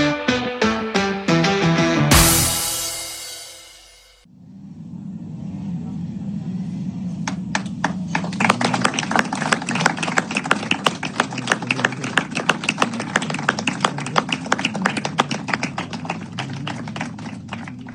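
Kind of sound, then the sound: crowd, applause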